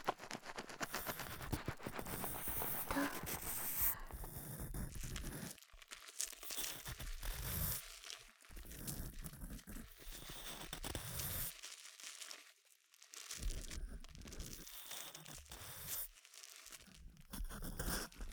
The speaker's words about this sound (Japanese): 軽く綿棒でお掃除をしますね。 あ、はい、綿棒です。 ありがとうございます。 では、こちらのお耳、お掃除しますね。入れますよ。こちらのお耳をお掃除しますね。